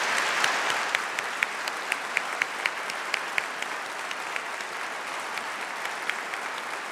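Steady audience applause for a Vietnam veteran fills the whole stretch, a dense wash of many hands clapping with sharper individual claps popping out irregularly above it, fairly constant in loudness.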